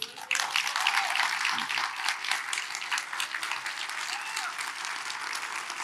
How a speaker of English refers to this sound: Stand on your feet. Come on, I'm gonna let y'all clap. Clap today.